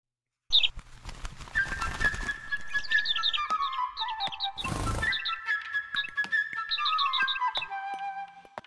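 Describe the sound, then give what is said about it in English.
A flock of birds chirps and whistles in quick, overlapping bright calls, with two loud fluttering rushes like wings arriving; no voices, just lively birdsong. “I know, my friends, the birds can come and pick them out for me.”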